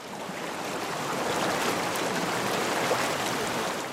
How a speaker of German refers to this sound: 500 Kilometer weiter nördlich, auch auf der Baumwollfarm Cubby Station, donnert das Wasser. Endlich, noch vor wenigen Wochen, lag die Anlage trocken.